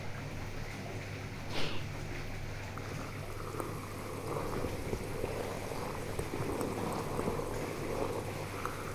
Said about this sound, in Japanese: この泡は炭酸泡なんだよ。だから普通の泡よりもプチプチって音が大きいの。炭酸泡マッサージ気持ちいいでしょ。